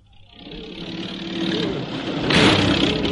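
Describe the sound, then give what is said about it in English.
A car being taken out for a picnic trip to the Surrey Woods comes to life and pulls away, its steady mechanical roar swelling over about three seconds and growing louder and brighter as the vehicle accelerates. No voices. “You pack a hamper and I'll get the car out.”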